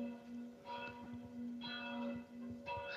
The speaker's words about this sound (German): Bei dir klingeln die Glocken. Ja, ich weiß. 12 Uhr. Ja.